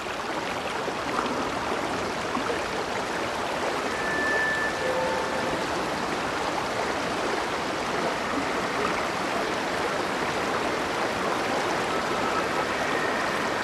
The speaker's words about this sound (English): The view rises from the surface of the flowing water to reveal that it is pouring through a flooded woodland. The gnarled and thick roots of the massive trees are exposed amidst the flooded terrain.